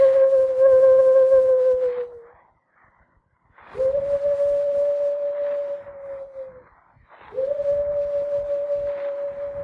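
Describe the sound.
A human voice imitates a bird call with three long, steady, whistle-like hoots, each held for a couple of seconds with brief pauses between. The later two start with a quick upward swoop.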